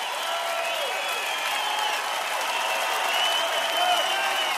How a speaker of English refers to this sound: Lots of applause there